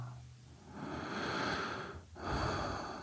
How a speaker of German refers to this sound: Und jetzt passiert so ein Atmen und dann entspannt sich was in mir.